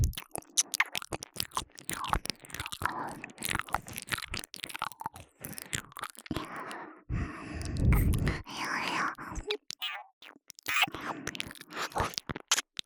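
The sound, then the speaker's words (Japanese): Wet ear-licking mouth sounds: dense, irregular smacks and slurps with a crunchy, chewing-like quality, swelling into a louder, fuller stretch midway, alongside soft whispery breaths. “耳なめの音、より下品になっています。”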